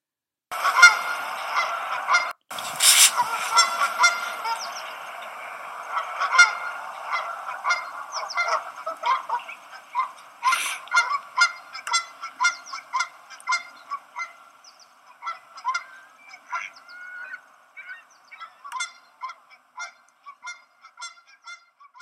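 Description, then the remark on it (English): Canada geese honk over and over in a noisy, overlapping chorus on the west side of a bridge in the morning, dense at first and thinning into scattered calls, with no voices present. “Canada geese are honking on the west side, and ducks are quacking at the boat launch ramp on the east side.”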